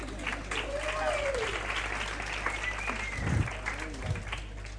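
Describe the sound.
An audience applauds steadily for about five seconds, a dense, even wash of many hands clapping, with faint voices rising through it and a low hum underneath.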